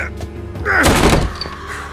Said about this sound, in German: Die Tür war verschlossen, also ließ ich sie eine meiner Schultern spüren.